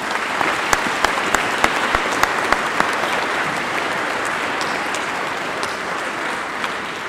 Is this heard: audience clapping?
yes